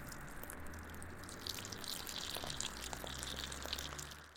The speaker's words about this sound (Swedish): Greg sträckte sig efter vattenslangen som fortfarande pumpade ut vatten i en jämn ström.